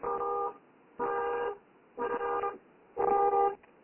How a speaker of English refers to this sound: Horns honking. What's going on? Yeah, I'm sorry. I'm sitting in a car, and when I opened the door, I set off the alarm.